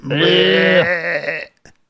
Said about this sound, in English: Yeah, that sounds about right. That's when a sheep boos you.